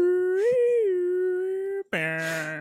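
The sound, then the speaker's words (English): A siren wails in a steady, sustained tone that swells slightly in pitch early on, cuts out briefly, then returns as a louder, harsher, buzzier blare, going off as Scott Steiner arrives after a wrestling promo. No one speaks. “Goes to put the mic down, and then a fucking siren goes off, and Scott Steiner's here.”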